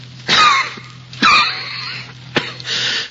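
A person coughs in several harsh, raspy bursts, roughly three or four fits spaced about a second apart, fairly loud, with a wheezy, breathy edge and no speech.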